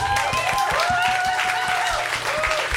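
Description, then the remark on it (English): Loud, steady applause: many hands clapping in a dense, continuous patter for a few seconds, with whooping voices rising and falling over the clapping. “I don't know if we're applauding your awesome.”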